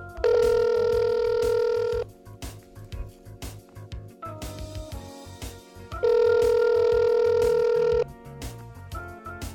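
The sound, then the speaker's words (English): A phone line rings out twice as a radio host calls a contest winner, each steady electronic ring lasting about two seconds with a pause between, loud over a soft rhythmic music bed. “Yes, I think we need to get her on the phone.”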